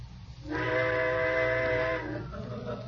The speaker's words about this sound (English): What was that? Trains. I suppose they're going to blow all night now. Well, go ahead, blow.